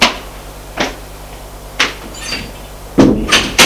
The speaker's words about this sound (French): Frappe à la porte du salon.